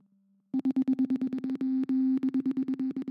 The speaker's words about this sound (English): So the hope that coded messages could be relayed through short tapping noises in seances is quite similar to the sort of Morse code tapping that is used in telegraphy.